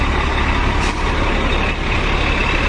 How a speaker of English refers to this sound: MTA bus, 3112, QM4. So the bus number is 3112, and the route right now is QM4. It's in amber, you know, electronic letters, like a little screeny letter, LED.